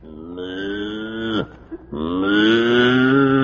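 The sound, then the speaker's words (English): A cow moos twice: a long, droning low call with rich harmonics, a brief pause, then a second, louder and longer moo that rises slightly before holding steady. “No, it's a cow.”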